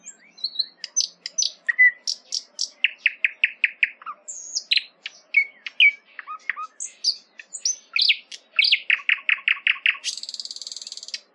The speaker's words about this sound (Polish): Słowik.